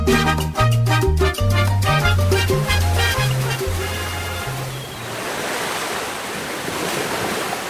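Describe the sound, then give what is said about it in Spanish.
A short musical passage fades out, giving way to the steady, loud rush of rough, choppy sea waves breaking on the coast at Yarica on a rainy day ahead of an approaching storm, with a broad hissing roar and gusty wind. “En la costa, el oleaje de un mar picado precede a alguna tempestad que se avecina.”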